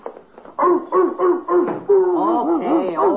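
A dog gives four short, loud barks in quick succession, wanting to be let in, then breaks into a steady run of high, rising-and-falling whines and yelps, with no one talking.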